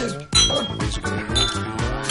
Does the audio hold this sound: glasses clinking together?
yes